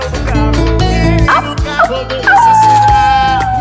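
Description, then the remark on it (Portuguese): A few sharp, high yips and barks from a female dog ring out in quick succession, mixed in with loud, dense upbeat music that plays throughout. “A cadela também louca.”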